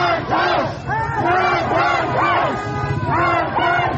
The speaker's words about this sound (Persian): این سیل جمعیتی است که از دیگر شهرهای کردنشین برای شرکت در مراسم 40 روز مرگش به اینجا آمدند. جمعیتی که ابتدایش به ورودی سقز از جاده بانه می رسید و انتهایش ناپیدا بود.